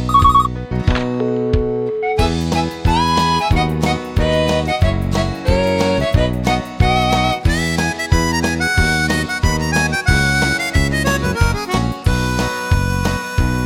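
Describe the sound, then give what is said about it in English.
A woman's mobile phone rings in a car with a loud, bright electronic ringtone melody, repeating rhythmic chimes that play on steadily for several seconds with no one talking over it. “The next thing her mobile phone did ring, just as I was about to put me hand on her.”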